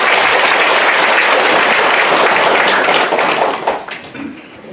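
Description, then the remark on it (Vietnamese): A crowd at a Buddhist gathering applauds a monk loudly and steadily, a dense wash of many hands clapping at once that thins and fades out near the end. No one speaks over it. “Xin quý vị cho thầy một tràng pháo tay.”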